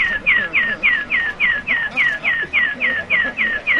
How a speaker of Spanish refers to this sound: Bueno, este pajarito me suena mucho a Centro de Santiago de Compostela, pero ahora lo tenemos. Y mejor dicho, así suenan a veces y a demanda, porque el Ayuntamiento ha renovado los avisadores acústicos de los semáforos,